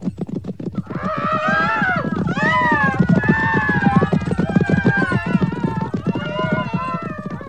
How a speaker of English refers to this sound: And the ground all around where they had flung me was bouncing in my ears with the din of great horse hooves.